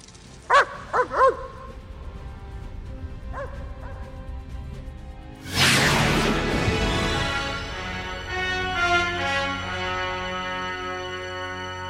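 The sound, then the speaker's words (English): A quick burst of three sharp dog barks, then two fainter barks a couple of seconds later, before a louder, sustained tonal sound takes over and fills the rest. “But sometimes I would like to bark like a dog.”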